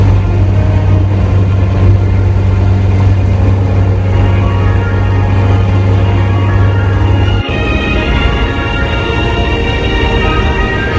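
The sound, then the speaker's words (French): A moving truck's engine rumbles loudly and steadily, a deep droning hum that abruptly shifts in tone partway through, as if changing gear while pulling up. No one speaks. “On arrive en même temps que le camion de déménagement.”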